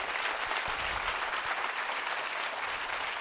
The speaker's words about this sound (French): je pense qu'on va l'applaudir beaucoup, beaucoup, beaucoup, beaucoup, beaucoup.